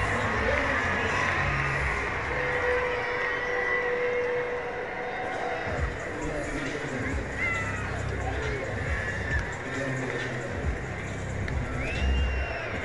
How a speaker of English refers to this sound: Throw to the plate. Is not in time. RBI double from Ezekiel Duran. His 12th of the season. Listen to this crowd. 3-0 Riders.